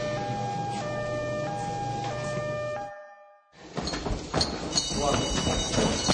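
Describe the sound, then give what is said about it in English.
A loud fire station alarm siren blares in steady, stepped electronic tones that shift between pitches, cuts out briefly, then resumes beneath a clatter of banging and hurried movement. “No. The alarm.”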